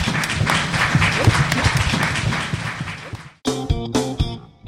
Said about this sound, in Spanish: Pues muchas gracias, un fuerte, fuerte aplauso, por favor.